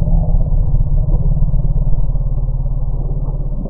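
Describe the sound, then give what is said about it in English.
A deep, steady elephant alarm rumble given in response to bees, played back to elephant families by researchers, a low throbbing drone with a faint pulsing texture that holds at an even loudness for about four seconds, with no other sounds over it. “only a couple of the elephant families fled.”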